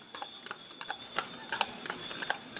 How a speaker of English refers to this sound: A horse-drawn carriage filled with tourists travels Eureka Springs' historic loop lined with blooming dogwood and redbud trees.